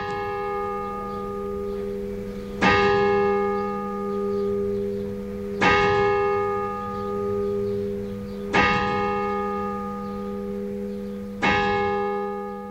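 A deep, resonant bell of an illuminated tower clock striking six o'clock; four strokes are heard at slow, even intervals, each loud stroke followed by a long humming ring that lingers into the next. No voices.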